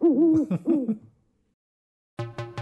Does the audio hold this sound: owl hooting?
yes